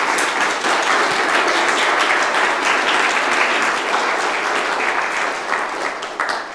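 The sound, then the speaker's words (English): A crowd claps steadily for several seconds at the close of the presentation days of the All Systems Go conference, a dense, sustained wash of applause from a sizable audience that holds at full strength before tapering slightly at the end. “Round of applause, I think.”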